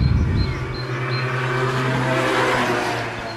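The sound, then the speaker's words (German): A scooter drives past a veranda in Beaumont, France, after a day of rain with the sun now out; its engine a steady, fairly loud buzzing drone with a low hum that swells slightly midway and eases off at the end. No one speaks. “Jetzt stehe ich gerade auf der Veranda und genau in diesem Moment fährt ein Roller vorbei.”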